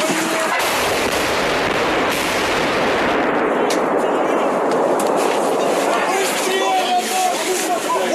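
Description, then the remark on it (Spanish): Gunfire and artillery from an attack by Russian troops in a sector of Ukraine rumble continuously in the background, a dense, loud wash of blasts and crackling, while a male journalist covering the war talks over it. “Más bien, digamos, sí, no, el protagonista de este video, el hombre que escuchamos en esta grabación, donde al fondo se oye el ataque de las tropas rusas en un sector de Ucrania.”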